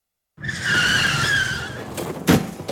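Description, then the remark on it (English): Car tires screech in a loud, sustained skid for over a second as the driver brakes for a big black cat running in front of the car and cannot control the wheel, then fade into a couple of sharp knocks near the end. No one speaks. “Mr. Jackson tries to slow the car. He can't control the wheel.”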